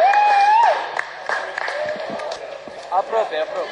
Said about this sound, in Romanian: Răcanii, adică noi recruți, au fost salutați cu pancarde și aplauze ca niște campioni olimpici reveniți acasă. Cel puțin așa era atmosfera din sala aeroportului.